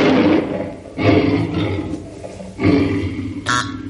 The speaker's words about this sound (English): And listen to this lion calling to his mate.